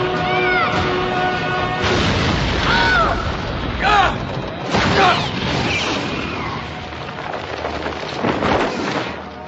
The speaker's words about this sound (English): Never mind that you crashed a brand new F-35.